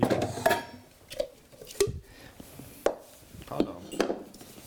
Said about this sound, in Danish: Så skal vi, ja, asparges. Ud med dem, og hakke dem lidt i stykker.